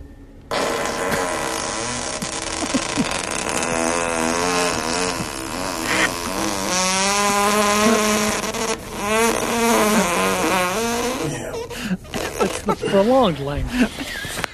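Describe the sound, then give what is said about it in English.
A long, buzzy fart stretches on for several seconds, its raspy tone wavering and then climbing higher in pitch before sputtering out in a few short bursts near the end. “Changing a key in mid-fart is death-defying.”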